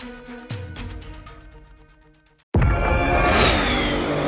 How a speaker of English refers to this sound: Did you hear that? That's what an estimated 500 horsepower sounds like.